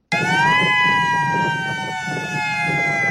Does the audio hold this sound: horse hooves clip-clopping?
no